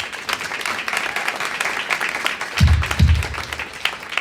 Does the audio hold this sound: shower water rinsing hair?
no